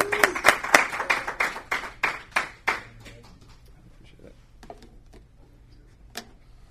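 Audience applause: a small group clapping in quick, sharp bursts for a few seconds, then thinning out to a handful of scattered claps before a final lone clap.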